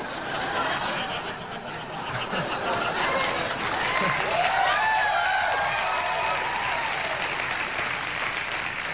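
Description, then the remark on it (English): A crowd lets out a mixed reaction, a steady roar of cheering and scattered boos and whoops that swells midway and holds loud for several seconds. “The crowd is torn.”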